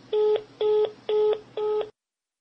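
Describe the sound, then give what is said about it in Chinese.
Four evenly spaced telephone keypad tones beep in quick succession as a man dials a phone call again, each a short steady electronic note, clear with a faint hum beneath and no voices. “耐着性子再次拨通电话。”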